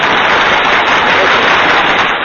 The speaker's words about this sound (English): Oh, we got to give you some applause for that.